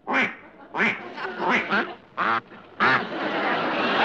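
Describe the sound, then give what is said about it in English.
A duck call imitates quacking with about six loud, nasal quacks in an uneven rhythm, then a steady wash of crowd-like noise takes over. “how about a duck call?”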